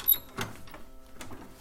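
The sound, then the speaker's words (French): A house door opens as someone comes home, with a brief high squeak, a dull knock of the latch or handle, then a softer clunk about a second later. It's fairly quiet, with no talking. “Un bruit de la porte.”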